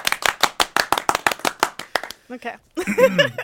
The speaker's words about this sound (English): Can we clap for our non-guests? Yeah, clap for us.